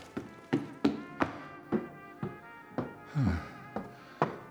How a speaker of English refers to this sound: Stairs. So darn steep. I feel like I'm climbing up on all fours.